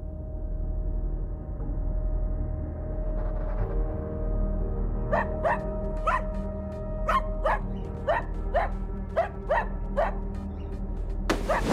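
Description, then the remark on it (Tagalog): A dog barks over and over in a steady rhythm, a run of about ten sharp, clear barks, against a constant low background hum with no talking. “At ka ba tahol ng tahol dyan?”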